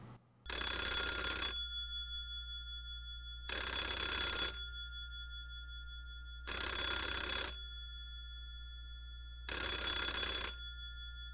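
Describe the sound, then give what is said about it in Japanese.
A telephone rings four times in a steady pattern, each bright, buzzy burst lasting about a second with short pauses between, clear with a low hum underneath. “高校の桜を永遠と書き始めてしばらく経った頃、電話が鳴った。”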